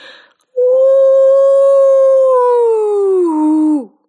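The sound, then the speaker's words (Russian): A woman on all fours imitates a wolf howl: one long, loud wail held steady for about three seconds, wavering slightly before sliding down in pitch and cutting off, with no other sounds. “Вой больше напоминал вопль, причем предсмертный.”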